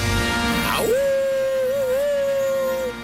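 A single wolf-like howl, fairly loud: it slides down at the start, then holds a steady, slightly wavering tone for about two seconds before fading out. No talking.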